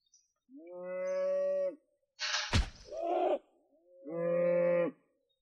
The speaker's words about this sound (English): What is that? It's a cow. Why are you killing a cow?